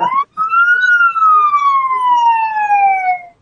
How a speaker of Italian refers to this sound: Chi è che ha suonato la sirena da neve, da nebbia?